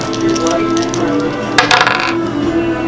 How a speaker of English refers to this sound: Prone, so you're at disadvantage. So you got to roll 2 dice and take the lower one.